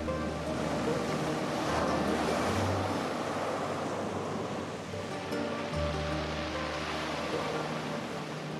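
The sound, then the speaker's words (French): Rough ocean water surges and crashes steadily at sea as a storm builds and rain falls, a dense roar of ever-growing waves with a low engine-like hum underneath, heard from aboard a boat. “La pluie a commencé à tomber et les vagues grandissaient de plus en plus.”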